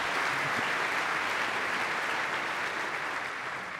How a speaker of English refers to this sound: They want to clap